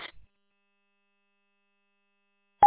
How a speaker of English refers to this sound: Yeah, I didn't know that, but I didn't know you could hear the beginning Roger beep or not, but yeah, I know you wanted those beeped off, but yeah.